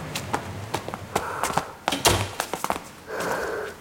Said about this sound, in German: klopf dir mal die Schuhe ab. Du trägst sonst den ganzen Schnee ins Treppenhaus.